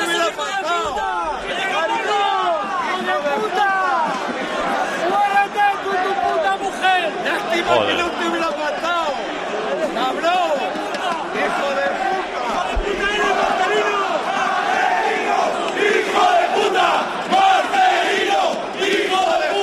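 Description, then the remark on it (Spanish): A large stadium crowd at Vallecas shouts and chants insults at coach Marcelino as he arrives at the bench before the match, from about 2 metres away, in a dense, continuous roar, many overlapping voices rising and falling in hostile bursts for the whole stretch without pause. “Marcelino no reacciona a estos gritos que se producen a 2 metros de Marcelino.”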